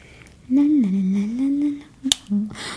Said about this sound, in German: Ach ja, ich glaube, ich habe Mohammeds Stift zerbrochen.